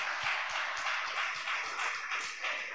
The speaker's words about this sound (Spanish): ¿Qué les parece si le damos un fuerte aplauso a todos los que han formado parte?